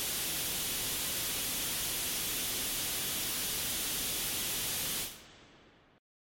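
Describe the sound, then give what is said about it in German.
Steady, loud hiss of radio static fills the air like white noise, unchanging for about five seconds before it quickly drops away and thins out into silence. No voices. “Am Himmel ein weißes Rauschen.”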